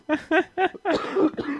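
A cat coughs and hacks in a quick run of about five raspy, voiced bursts, the last ones longer and strained, fairly loud with no talking.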